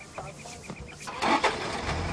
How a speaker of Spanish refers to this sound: Al oír el rugido de un motor, se incorpora extrañado.